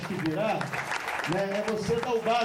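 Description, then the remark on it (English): A crowd claps steadily in a dense, crackling wash as a plaque is presented in Brazil, while a voice speaks or calls out over the applause. “Here's a plaque, so applause now.”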